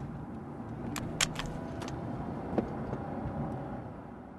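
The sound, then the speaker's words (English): A car idles and rolls in toward a junction, a steady low engine rumble with a few sharp clicks and knocks, easing slightly as it slows and comes to a complete stop. “Calmly, precisely, and comes to a complete standstill. No alarm, just arrival.”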